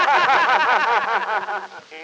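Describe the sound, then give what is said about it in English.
An Irishman snoring loudly in the upper berth, called a terrible noise: a continuous, rasping, wavering snore that rises and falls in pitch for about two seconds, sounding comically exaggerated, like a voice imitating it, before tapering off. “Why, that's the Irishman snoring in upper full, sir.”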